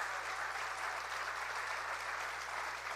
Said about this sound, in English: I think we need to give the Lord a good clap offering for what he's done. Amen.